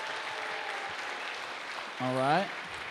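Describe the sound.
Steady applause from a crowd voting by applause for the most fun couple fills the whole stretch, a dense hiss of clapping, with one voice letting out a short, rising whoop of a cheer toward the end.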